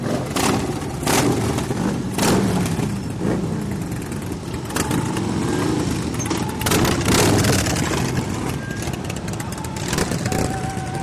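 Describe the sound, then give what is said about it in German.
A loud, continuous rumble of an estimated 200 motorcycle engines as a bikers' tour sets off on a 90-minute ride to the Crazy Horse Monument, with repeated throttle revs surging and fading over the steady low growl of the crowd of bikes. “Gaspedale werden getreten und die Motoren von geschätzt 200 Maschinen brummen los.”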